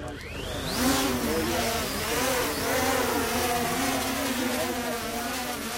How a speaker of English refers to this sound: Once the drone is airborne, it drops ping pong balls filled with a flammable fluid into the unburned area in the middle of the field. In less than a minute, the chemical reaction inside sets the balls on fire.